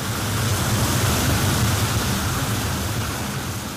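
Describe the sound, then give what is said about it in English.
A steady, loud rush of water spraying from a fire hose as a water curtain, shielding a firefighter's hand as he reaches in to turn a valve off during firefighter training; a dense hissing roar with no breaks and no voices. “The water curtain will protect the firefighter's hand as he reaches in to turn the valve off.”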